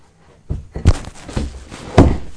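A door is pushed shut with a few dull thuds, the last one heaviest, amid some light rattling and handling noise. No one speaks.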